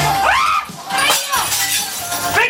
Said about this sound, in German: Was nach der Geräuschkulisse eines Actionfilms klingt, ist am Landstrasser Gürtel Alltag. In Gutstock, einem unscheinbaren Erdgeschosslokal, bezahlen Menschen dafür, alte Teller und Gläser mit Brechstange, Hammer oder Baseballschläger zu zertrümmern.